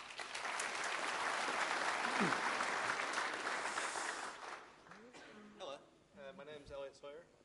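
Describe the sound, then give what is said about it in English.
An audience claps steadily for about five seconds at a TradeMe API launch event, welcoming a web developer from Careers New Zealand, a dense and loud patter that gradually thins out, followed by a man beginning to speak. “big round of applause”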